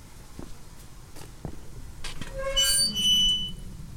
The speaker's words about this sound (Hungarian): Ne, jó, nyikorog ez a kapu.